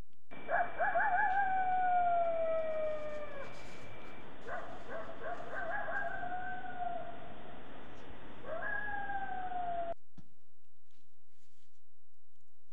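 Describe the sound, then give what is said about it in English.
Coyotes howl and yip together while travelling in the dark on a cold winter night, several rising and falling wails overlapping with sharp barks and yelps over about ten seconds, clear, with no talking. “Coyotes singing and talking to each other on a cold winter night as they travel in the dark”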